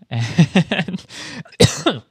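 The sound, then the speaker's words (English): A fit of harsh, rapid coughing and choking, with several sputtering bursts in quick succession, a strained rasping stretch, a short pause, then one more loud, gasping cough. “Bless you. Choking.”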